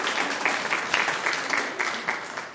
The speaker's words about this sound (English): Well done. Clap a round of applause for you.